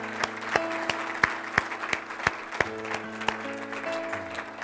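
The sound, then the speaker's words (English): An audience claps in a steady, even rhythm, sharp beats about three per second, applauding the name of Jesus after a closing prayer, over sustained low keyboard or organ chords that shift pitch toward the end. “I think we should go, and by applauding the name of Jesus, I heard that one clap there.”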